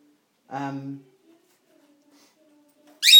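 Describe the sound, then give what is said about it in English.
A female pet bird squawks twice: first a loud, raspy, harmonic call, then after a quiet pause a sharp, piercing high-pitched squawk that cuts off abruptly. “She's not normally like, really squawky like this.”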